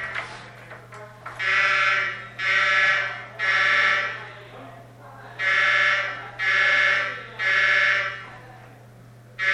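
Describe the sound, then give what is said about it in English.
A fire alarm blares while the alarms are being worked on, in repeated long, harsh buzzing blasts, six pulses with short gaps, loud and steady over a low electrical hum, with no one speaking. “I know they're working on the alarms, but is this a test?”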